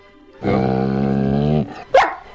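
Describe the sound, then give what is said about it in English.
In a radio jingle for a dog news segment, a dog gives a long, drawn-out, tonal bark lasting over a second, then one short sharp yelp after a brief pause. It is loud, with no talking. “Every scoop, every poop. This is dog news on Talk Sport.”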